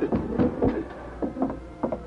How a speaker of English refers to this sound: A few minutes later, Hamilton Meade heard a rap on the door.